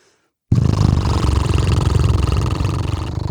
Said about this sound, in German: Und das können wir jetzt mal zusammen machen, die Lippen blubbern lassen.